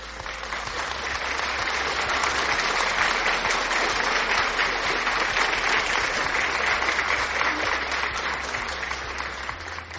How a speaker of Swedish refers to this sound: Men innan vi gör oss i kast med den andliga övningen så har vi en stor applåd för Joel och Judith som är dagens namnsdagsbarn. Klapp, klapp, klapp!